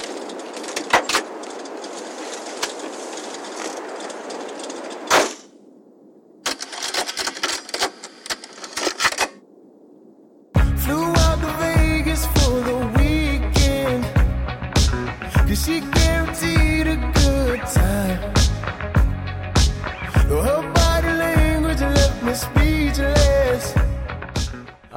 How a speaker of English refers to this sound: Well, interesting, because the album begins with, we hear the sounds of footsteps walking over gravel to a car.